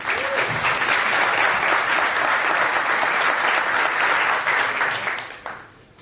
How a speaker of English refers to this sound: It's the first time we have Nextcloud in the house, so please, good round of applause and take it away.